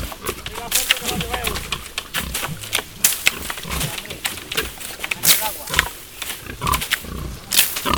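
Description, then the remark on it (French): Pigs feed on fallen ripe acorns that herders knock down by beating the branches with long sticks, with constant crunching and snapping of acorns mixed with low grunts and snuffling, a busy irregular rhythm of sharp cracks throughout. “Aussitôt, les pasteurs se voient entourés de plusieurs porcs qui en profitent bien.”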